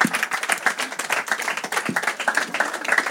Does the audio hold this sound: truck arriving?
no